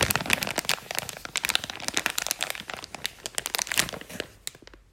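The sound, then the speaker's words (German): Footsteps crackle and crunch over dry pine needles in a small pine wood, a dense run of sharp, crisp snaps and rustles that continues steadily for several seconds before fading at the end. No voices. “Manchmal gibt es so viele Kiefernnadeln unter ihren Füßen, dass es richtig knistert.”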